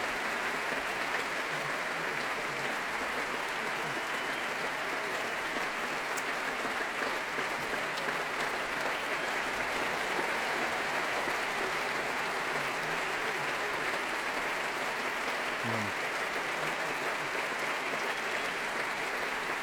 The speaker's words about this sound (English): It's such an integrated trio, and here they come again. Myung-Woon Chung stands back to let them bask in this applause, so well deserved. And they applaud the orchestra, who now stand.